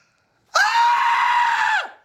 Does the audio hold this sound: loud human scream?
yes